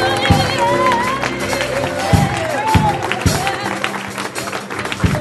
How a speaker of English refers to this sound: Now give the Lord a good half clap. Come on. Give the Lord a good half clap.